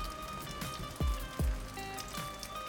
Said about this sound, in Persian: لرستان با آن طبیعت بیخ، دشت های وسیع و کوه‌های سر به فلک کشیده‌اش، وقتی باران می‌بارد انگار نفس تازه‌ای می‌کشد، جانی دوباره می‌گیرد. رودخانه‌ها پرخروش‌تر می‌شوند، جویبارها که شاید خشک‌گیره بودند دوباره جاری می‌گردند